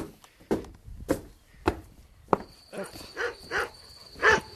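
A dog barks in short, repeated bursts, with sharp impact-like knocks in the first half and a steady high tone running beneath the later barks.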